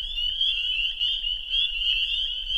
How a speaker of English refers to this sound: On our drive back, we go by some wetlands, and we hear peepers calling.